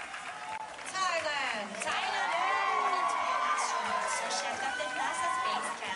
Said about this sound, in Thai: ครับเช่นเดียวกับกองเชียร์ชาวไทยจากทั่วสารทิศทั้งที่เดินทางจากรัฐอื่นๆในสหรัฐและเดินทางไกลจากเมืองไทยก็เดินทางมาร่วมส่งเสียงเชียร์ทุกครั้งที่ได้ยินการประกาศชื่อตัวแทนจากประเทศไทยเพื่อรวมใจเป็นหนึ่งลุ้นเชียร์ให้สาวไทยคว้ามงกุฎมิสยูนิเวิร์สได้สำเร็จครับ